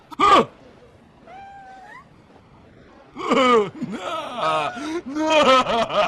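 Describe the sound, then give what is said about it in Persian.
A cat meows close by: a sharp yelp at the start, a faint short mew, then a run of loud, wavering, drawn-out meows crowding one after another. “نه خواهش میکنم اون گربه را از من دور کنید، خواهش میکنم.”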